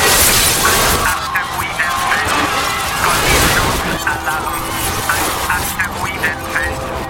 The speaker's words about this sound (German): Warnung, Sirenen, 10.000 winziger Körper, dazwischen viele hundert großer Brocken. Einschläge von gewaltiger Wucht. Das Raumschiff wird in kürzester Zeit regelrecht perforiert, zerfetzt, aufgerissen.